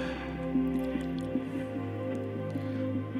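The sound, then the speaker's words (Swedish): Water pours steadily into a glass for a few seconds, a continuous trickle with a rising liquid tone and faint gurgles, with no talking over it. “Och lite vatten till det tänkte jag skulle slå till med.”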